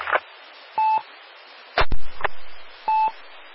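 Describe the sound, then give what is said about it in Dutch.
Bursts of radio static with two short electronic beeps, like a transmitter keyed on and off briefly; a louder crackling burst falls between them, with no speech. “Wie was er die net inkneep?”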